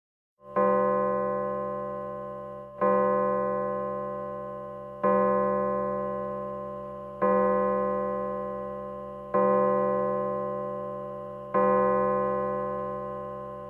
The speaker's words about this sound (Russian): Часы на площади пробили 6.